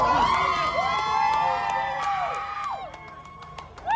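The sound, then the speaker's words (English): A crowd of supporters outside a courthouse cheers and whoops continuously as a man walks out after a court decision, many high voices overlapping in rising and falling shouts, with sharp whistles and a fresh burst of cheering at the end. “They had gathered to witness this decision, and as he walked out, he was greeted with cheers from some of his fans, if you can call it that, or supporters.”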